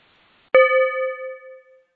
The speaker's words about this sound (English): I'll ring a bell when there's only 1 minute left so you can begin to wrap it up.